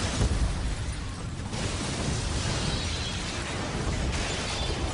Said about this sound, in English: And the explosions go on and on.